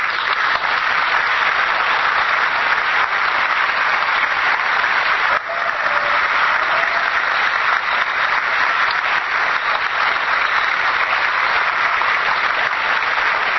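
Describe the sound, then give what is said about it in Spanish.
Sustained audience applause for people who, regardless of age, showed they could learn. It is a dense, steady wash of many hands clapping at an even loudness for the whole stretch, with only a brief dip midway and no voices rising above it. “Ese es el aplauso que sí se merece.”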